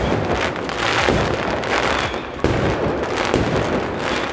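fireworks

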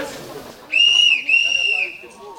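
locomotive whistle

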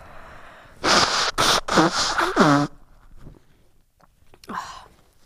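blowing nose

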